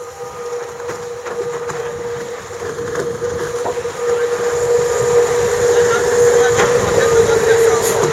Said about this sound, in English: little more breeze coming on now. Boat starts to bear away and heel. Leeward hull's barely in the water, just starting to lift. Another little gust on here, boat accelerates again.